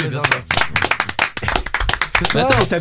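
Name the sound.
hand clapping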